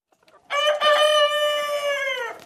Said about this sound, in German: Seit dem Sommer hält er spezielle Hühner in einem separaten Stall.